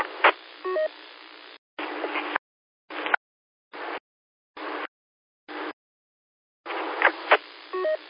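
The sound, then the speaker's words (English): Several short DTMF tones dial up an EchoLink test station over a radio repeater. They come through a hissy, band-limited radio channel, one burst after another with silent gaps between them. Longer stretches of static open and close the sequence. “going to dial up the echo link test station, make sure everything's working right”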